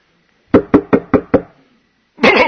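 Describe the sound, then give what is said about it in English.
Five firm knocks on a trailer door land in a quick, even rhythm, loud, followed by a short pause before a burst of noisier sound starts from inside the trailer. “Owen knocks on the door”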